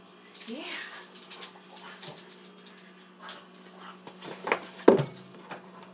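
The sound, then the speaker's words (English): A dog whimpers excitedly over food of broth and rice, with high rising whines and quick panting breaths in short bursts, plus a louder yelp-like burst near the end. “So as you can see, small things make my dog very happy, even if it's broth and rice.”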